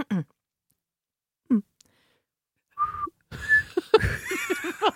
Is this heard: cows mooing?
no